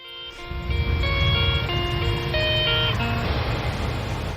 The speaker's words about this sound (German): Der Einlaufsong von den Bern Grizzlies, American Football Team hier von Bern.